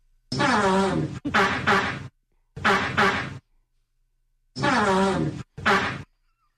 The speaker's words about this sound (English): Can you name that song that Antonio Brown is playing with his farts?